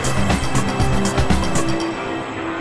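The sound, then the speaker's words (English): A pack of racing motorcycle engines, Cameron Bovier among the field, revs hard at the start of a motorcycle road race early in the season, a loud, layered roar with pulsing throttle blips that settles into a steady drone. “The field ready to do battle with the Californian. Revs are up. We're on our way.”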